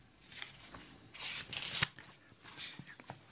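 Quiet papery rustling as pages are leafed through a book, with a louder swishing flurry in the middle and a few softer flicks and taps afterward.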